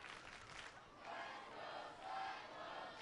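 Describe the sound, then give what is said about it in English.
A home crowd at a baseball game on a Friday night roars and cheers continuously, a broad wash of many voices swelling louder in the second half, with no single speaker standing out. “Home crowd getting into it here on this Friday.”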